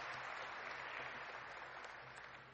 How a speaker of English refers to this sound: We've had a big round of applause for our worship team, which led us in these praise songs.